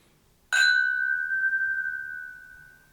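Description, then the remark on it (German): A single bright clink of two whisky glasses touching in a toast, followed by a clear ringing tone that slowly fades over a couple of seconds, fairly loud, no talking. “Cheers, mein Lieber.”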